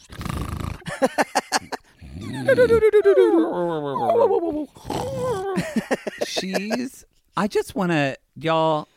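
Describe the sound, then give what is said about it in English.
A person imitates a drunk dog with a run of slurred, wobbly howls and groans that slide up and down in pitch, fairly loud, ending in a few short yelps. “She just gets the dog drunk.”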